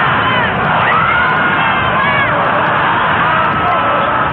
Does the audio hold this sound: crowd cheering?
yes